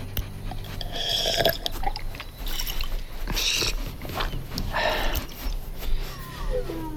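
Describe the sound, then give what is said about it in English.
Someone gulps down the last of the water, only a quarter full, in a few quick swallows, with sloshing and breathy pauses between sips over a low background rumble. “It's only a quarter full. Is this? The last of it? Yes. Drink.”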